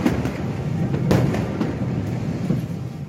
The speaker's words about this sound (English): This was last August. And then she heard the first of what would be two explosions.